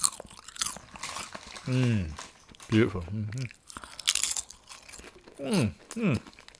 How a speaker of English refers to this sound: Oh, I love crisps. Or chips. I call chips in America. Isn't that crunch up?